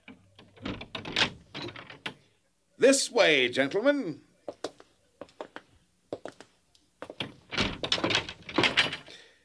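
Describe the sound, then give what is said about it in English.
A servant unlocks the door to a treasure house, and it swings open with a long, wavering creak, followed by a few sharp clicks and a thunk, while a man speaks before and after. “Lackey, unlock the door to my treasure house.”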